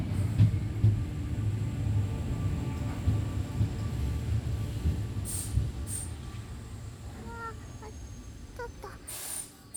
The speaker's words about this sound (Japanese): 電車来た。電車乗るの久しぶりだ。